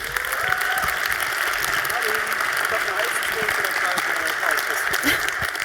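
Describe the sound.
Sustained audience applause welcoming a speaker before a talk: steady, dense clapping at an even loudness for several seconds, with some murmuring voices mixed in beneath it.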